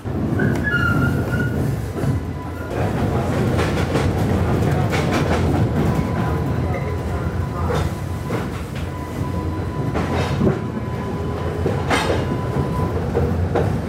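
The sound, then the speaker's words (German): A historic old streetcar on the Riverfront line in New Orleans rumbles along its rails from the French Market toward Canal Street with a steady low roar, wheels clattering and occasional metallic squeals, while faint voices murmur in the background. “Und das Streetcar fährt. Das sind richtig alte historische Straßenbahnen.”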